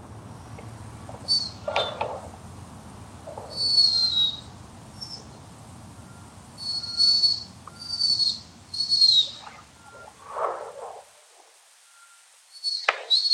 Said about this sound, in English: This is the sound a mouse pup makes when they're trying to get the attention of their mother.